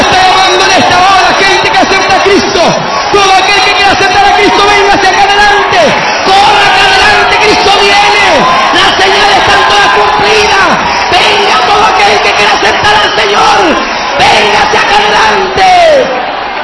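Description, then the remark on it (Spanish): A large crowd shouts and cheers loudly and continuously, many voices overlapping in an energetic roar with rising and falling yells throughout. “¡Gloria a Dios! ¡Cuánto grita!”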